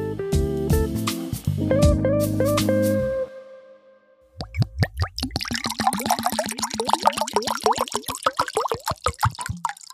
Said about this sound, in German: So, das Wasser ist eingeschenkt und damit kann die Folge auch gleich losgehen, denn ohne Wasser geht es nicht.